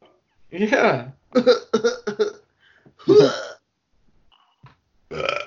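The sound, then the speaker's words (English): A few small, abrupt hiccup-like vocal bursts, some in quick clusters and others spaced out by brief pauses, with a throaty, voiced quality and no clear words. “Oh no, I got hiccups. I got little baby hiccups right now.”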